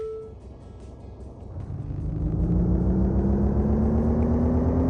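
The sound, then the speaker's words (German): An electric car's artificial pedestrian warning hum swells after a quiet start, a steady synthetic tone that rises gradually in pitch as the vehicle speeds up, fairly loud, with no talking. “Deshalb müssen E-Autos seit vergangenem Jahr Geräusche machen. Und das klingt dann zum Beispiel so, müssen wir aber trotzdem noch sehr genau hinhören.”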